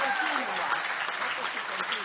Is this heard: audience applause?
yes